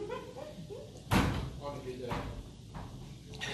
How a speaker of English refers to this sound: Last one in, close the door if you would.